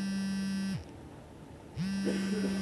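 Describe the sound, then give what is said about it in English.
An iPhone ringing on vibrate, a steady rattling buzz that runs for under a second, pauses briefly, then starts again. It sounds fairly loud, with no voices. “This is an iPhone ringing on vibrate.”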